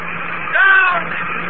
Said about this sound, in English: And there she is, Mr. Watson. From the atmosphere. Her jet brakes, melting fire. She's right over the field now. She's coming down. Down. Down.